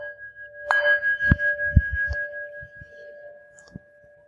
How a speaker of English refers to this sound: Every so often, because I know that the mind wanders and you'll forget that your intention is to notice the breath, every so often what I'll do is sound the bell.